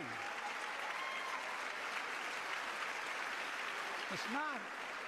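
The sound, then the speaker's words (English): Dense, sustained applause, including hard claps from Kamala, filling the whole stretch at a steady loudness, with a brief voice-like whoop rising near the end. “Kamala with the hard claps.”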